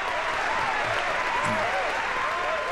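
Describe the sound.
An audience applauds in a dense, steady wash of clapping that holds at an even loudness for nearly three seconds, with faint voices mixed underneath.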